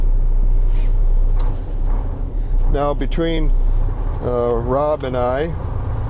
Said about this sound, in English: You're going to hear that diesel engine firing up in just a moment. I'm closing my door. He's doing the glow plugs. You can hear the engine purring.